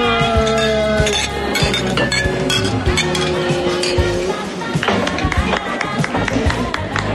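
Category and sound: household object, glasses clinking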